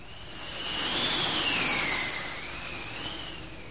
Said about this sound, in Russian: Ветры подули, море взволновалось, и бочку выкинуло на сухой берег, на желтый песок.